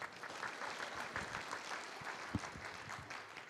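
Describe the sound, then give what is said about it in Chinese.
An audience in Taiwan applauds to welcome Microsoft vice president Pan Zhenlei for a keynote speech, many hands clapping in a dense, steady patter that holds at an even level for a few seconds, with no one speaking over it. “请大家以掌声欢迎潘振磊副总裁。”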